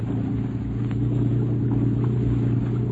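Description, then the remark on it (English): A motorboat engine is opened up to full throttle, roaring loud, a steady low droning hum with a deep throbbing rumble that holds its power for the full three seconds, with no voices. “Open her up and get away, Scotty. Give her all she's got.”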